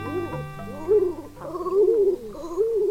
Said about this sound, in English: This bird may not quack like a duck or look like a duck, but the king eider is one of the most striking sea ducks in the northern hemisphere. This male king eider is trying to woo a mate with soft coos and brilliant colors.